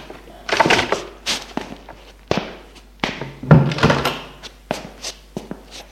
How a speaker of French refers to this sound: La porte du salon s'ouvre.